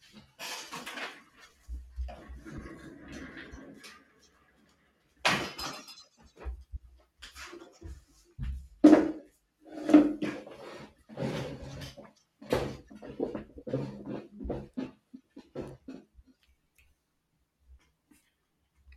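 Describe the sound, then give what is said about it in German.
A desk chair being swapped out: scattered clunks, rattles and shuffling knocks over about fifteen seconds, irregular and moderately loud, then quiet. No one speaks. “Ich glaube, ich wechsle noch kurz meinen Schreibtischstuhl, weil ich kenne den und der quietscht immer so in der Aufnahme.”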